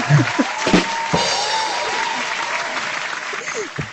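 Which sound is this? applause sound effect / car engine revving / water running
applause sound effect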